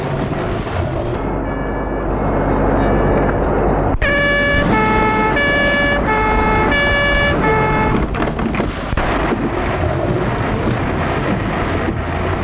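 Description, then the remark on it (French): An emergency vehicle siren blares in a two-tone pattern, its alternating pitches cutting through loud, steady street traffic before giving way to continuous road noise. “Les voisins, les domestiques ont appelé la police, les pompiers.”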